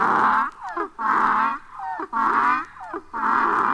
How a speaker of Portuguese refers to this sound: O jegue estava no portão, quis me pegar. Quando me viu, foi murchando as orelhas, mostrando o dente e começou a relinchar.